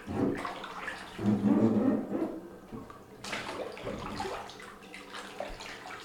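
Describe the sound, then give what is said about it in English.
Bathwater sloshing and swirling as a cyclist slowly lowers into a tub filled with exceptionally hot water, with irregular surges of splashing and gentle lapping in between, no voices. “Exceptionally hot water. I'm gonna lower myself in.”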